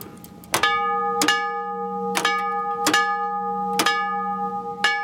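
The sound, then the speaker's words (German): A railway signal bell, set off by a small electrically driven magnet that trips a lever, strikes a simple six-stroke signal at an unhurried, slightly uneven pace, each clang sharp with a bright ringing tone that lingers between strokes. No one speaks. “Einfaches Läutesignal von 6 Schlägen. Dieses war eben auf 6 Läuteschläge ausgelegt.”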